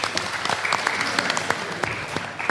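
A short burst of moderate applause from a small group at a quiz game, scoring a contestant's points, steady overlapping claps at medium loudness for a couple of seconds with no talking.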